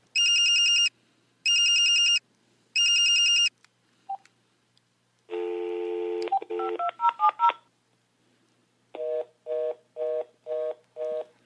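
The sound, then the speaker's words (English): A phone number is dialed: a run of sharp electronic keypad tones, some quick and overlapping, followed by a steady sequence of short repeated beeps. The tones sound clear, with no voices. “To the bat phone.”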